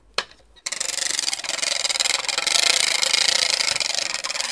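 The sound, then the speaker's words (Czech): A single wooden knock, then a large wooden ratchet rattle shaped somewhat like a wheelbarrow, of the kind pushed around the village green, cranked steadily: a loud, dense, rapid clatter of clicks that continues without pause to the end, with no talking. “Takže s tím se jezdilo po návsi a řehtalo to.”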